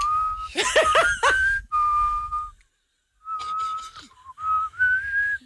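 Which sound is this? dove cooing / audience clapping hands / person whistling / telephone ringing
person whistling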